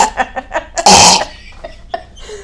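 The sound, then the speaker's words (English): A single harsh, loud test cough made while testing a microphone bursts out, preceded by a few short breathy throat sounds and followed by faint rustling. “Okay, that was a real cough. That was gross.”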